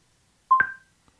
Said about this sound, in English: Hey Google, set volume to 10. Okay, and you can tell the beeps are a lot louder.